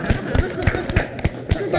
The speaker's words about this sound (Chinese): 接着是二十八分，一组是三十四分，我们为一组鼓掌，好不好？